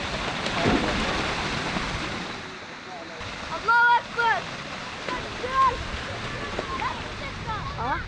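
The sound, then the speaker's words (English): Neighborhood boys splash and play in a waterhole in Aleppo created by broken pipes, with a steady wash of churning, spattering water and occasional excited shouts and calls from the children cutting through. “Barrel bombs have formed craters in that city, and broken pipes have created a waterhole for neighborhood boys to play in. But the boys are loving it. And a pool party unlike any other has started.”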